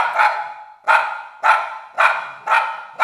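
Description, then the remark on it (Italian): A small, fluffy poodle, tiny as a mouse, barks six times in a steady, rapid rhythm, each bark sharp and high-pitched with a brief ringing tail, and no other sounds or voices. “e per di più per trasformarsi in un cagnolino piccolo come un topo che abbaiava sempre, talmente peloso”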